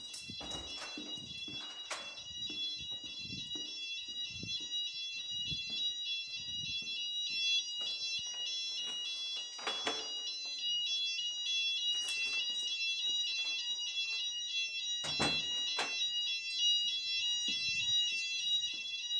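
A shrill electronic alarm on a shop's back door, set off when the door is pressed and sounding much like a fire alarm, rings continuously for the whole stretch, its high layered tones steady, broken by a few brief bumps and clatters.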